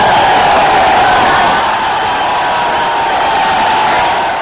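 A crowd of 10,000 supporters cheers as it welcomes warlord Abdul Rashid Dostum in Sheberghan, northern Afghanistan, on a Monday: a dense, roaring wash of many voices that stays loud and steady throughout, with no single speaker standing out.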